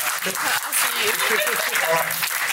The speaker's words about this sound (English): Round of applause. This person.